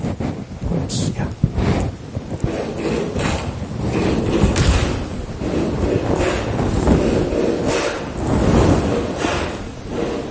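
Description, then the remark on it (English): A large audience stomps its feet and then claps along to a song in a loud, dense roar of thuds and slaps, with rumbling low-end noise and indistinct voices blended into the steady din. “So they're stomping their feet, then clapping.”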